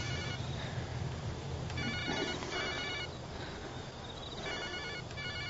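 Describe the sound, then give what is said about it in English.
A telephone rings in shrill, repeating bursts over a steady hum of background noise, with no one speaking while it rings. “Go ahead, answer it.”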